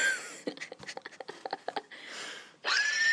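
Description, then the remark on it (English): A horse whinnies: a high, strained cry breaking into a rapid fluttering series of pulses, then a breathy snort and another shrill call. Clear, with no talking. “Oh, it's a currency horse.”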